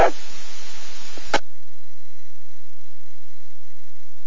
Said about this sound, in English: I believe I heard a mic click. Would you like to try again?